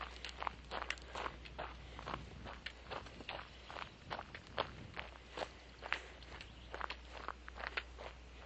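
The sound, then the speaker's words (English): Steady footsteps walking outdoors, a regular crunching rhythm of roughly two steps per second over a low constant hum, with no voices. “Anyhow, folks, I'm going to check for post, and then after that, I'm going to curtail this walk because I'm actually rather warm at the moment.”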